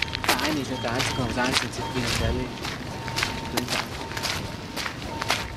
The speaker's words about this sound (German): Der Mann, der Flanieren als Schule der Langsamkeit predigt, schreitet zügigen Schrittes voran.